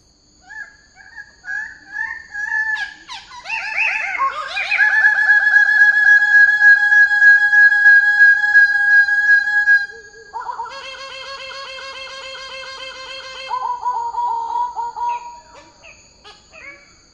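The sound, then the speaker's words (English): Two Goldie's birds-of-paradise, a plumed bird-of-paradise species, call in a loud, tightly synchronized duet, their harsh, repeated nasal notes overlapping in a rapid, sustained chorus that swells in the middle, then breaks into separate bursts. “this is the Goldie's Bird of Paradise”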